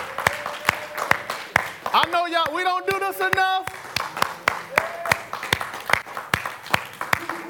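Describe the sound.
A crowd claps for 30 seconds for the women in the room, in a steady, even rhythm, sharp hand strikes landing at regular intervals while a man speaks over the beat, his voice rising and falling.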